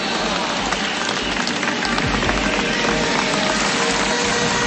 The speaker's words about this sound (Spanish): Y quiero enviar un aplauso de reconocimiento a los militares de Venezuela. ¡Que viva la Fuerza Armada Nacional Bolivariana!